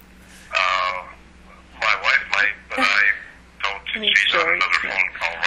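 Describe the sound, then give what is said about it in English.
A telephone rings in several short, bright bursts separated by brief pauses, moderately loud, with a low steady hum underneath. “Phone call right now. I'm sorry.”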